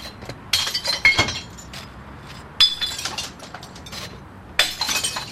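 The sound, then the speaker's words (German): Glass bottles are thrown into a bottle bank at a waste glass collection point, smashing in three loud bursts, each a sharp crash followed by a scatter of clinking, tinkling shards. No one speaks. “Was mich besonders fasziniert, während dem Flaschen reinrühren, es hat sogar so etwas wie Kunst am Bau.”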